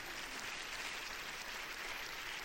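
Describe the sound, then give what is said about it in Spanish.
An audience claps in praise to God during a Christian sermon, the dense, overlapping applause holding at an even loudness throughout with no talking over it. “Dele palmas al Dios de la gloria.”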